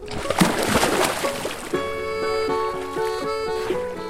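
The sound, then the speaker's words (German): Water splashes and sloshes loudly for a second or two as a person jumps into a lake, then steady tonal, music-like sounds take over. The water is soft, clean and not cold. “Und jetzt reinspringen”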